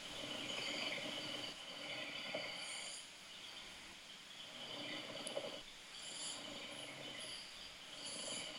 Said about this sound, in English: You've got a new one now. Oh, really? This is exciting. This is helicopter snoring.